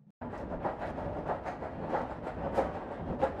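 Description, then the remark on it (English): A metro train on the Tsuen Wan Line rumbles steadily into a station platform with a dense mechanical roar and faint rhythmic clatter, growing fuller, with no voices over it. “Look, it's our train.”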